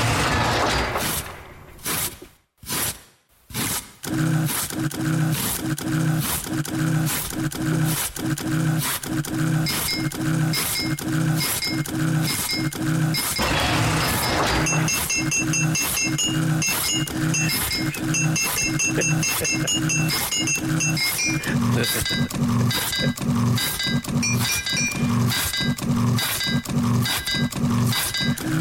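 A tune composed from kitchen sounds: whirring blender, a carrot being grated, a big squeaky oven door and teacups being played. Steady rhythmic pulses ride over buzzing low drones and bright repeated high notes, briefly dropping out near the start.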